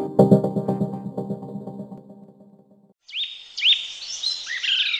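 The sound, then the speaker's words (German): Bright, rapid bird chirps and twittering trills fill the second half, following a low harmonic tonal sound that fades out; the birdsong is clear, with no talking. “Dieses Vogelgezwitscher. Völlig ungewohnt.”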